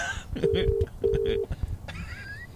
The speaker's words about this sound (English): Why is that ringing off my phone? It's my phone that's ringing it, mate. Oh, okay. I'm on your Bluetooth.